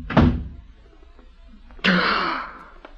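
A door shuts: first a low thud, then after a pause a louder closing bang with a brief ringing rattle that fades out. No one speaks.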